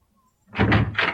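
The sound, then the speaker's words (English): A back door is opened and pushed shut as an official comes in, a short run of solid wooden thumps and rattles after a moment of quiet, with no voices. “He is coming through the back door.”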